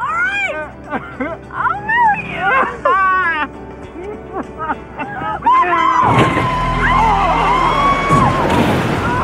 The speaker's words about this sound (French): Ah oui, vous avez bien entendu, à peine 12 épisodes, un tiers de cette deuxième saison, Darren Star sacrifie Kimberly, morte dans l'accident de voiture que Michael a provoqué.